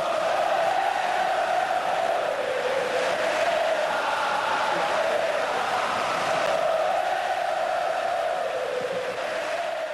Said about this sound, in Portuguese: o minuto de silêncio pela morte de Ayrton Senna não foi feito antes do jogo e sim aos 3 minutos do primeiro tempo. E nesse momento, são paulinos e palmeirenses esqueceram a rivalidade para juntos gritarem o nome do ex-piloto brasileiro.